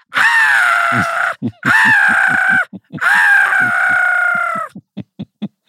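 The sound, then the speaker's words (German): A person imitates a black-headed gull, letting out three long, harsh, wavering screeches with short gaps between them and a few brief clicking or thumping sounds at the end. “Und weil ich sie nicht mehr zählen kann, kreische ich dann genauso.”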